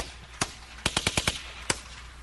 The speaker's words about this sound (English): Yes, he also has a song about rifle bursts, and I think you'll enjoy this. It's the hardest beat. This is the hardest beat anybody's ever heard. It's made out of gunshots. Gunshots on a beat.